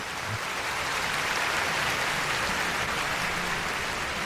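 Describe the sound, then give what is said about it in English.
A crowd claps steadily, the dense crackle of many hands holding an even level for about four seconds with no voices on top. “so you can give her a round of applause, man.”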